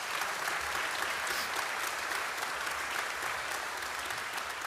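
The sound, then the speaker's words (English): An audience applauding people for their courage, a dense wash of many hands clapping at an even, sustained level with no break and no voices standing out. “Would you guys give them, would you guys just applaud them for their courage?”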